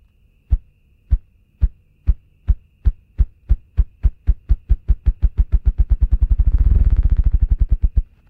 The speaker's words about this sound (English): Body part, wings. Species, ruffed grouse.